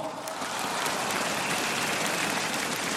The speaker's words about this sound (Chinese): 嗱，借大家少少时间，同埋借大家嘅掌声，送俾一啲单位先，好冇？